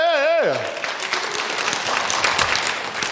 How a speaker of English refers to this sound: If y'all heard the youth choir, wasn't that good? Didn't the youth choir do a good job? Oh, yeah, y'all can clap.